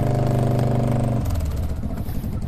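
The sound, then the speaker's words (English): A four-wheel drive vehicle's engine runs on a farm as it follows behind through lush green paddocks while cattle are moved, with a steady idling hum that shifts into a rougher, lower rumble partway through, loud and continuous with no voices. “she traverses the lush green paddocks, her dad in the four-wheel drive following close behind.”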